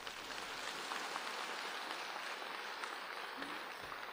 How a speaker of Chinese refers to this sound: 鼓掌。